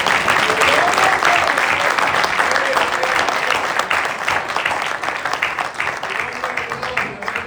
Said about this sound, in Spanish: Esta bendición grande, le podría dar un aplauso a él.